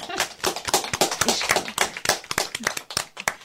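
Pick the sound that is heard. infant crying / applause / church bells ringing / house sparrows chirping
applause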